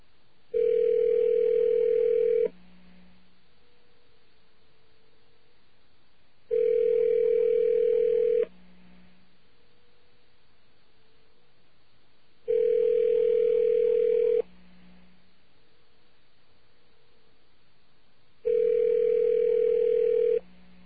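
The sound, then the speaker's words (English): A telephone call dialed over the radio rings on the line four times, each ring a steady, buzzy tone lasting about two seconds, separated by even pauses of roughly four seconds. No voices are heard. “Hacker rule is always to give something five rings before giving up.”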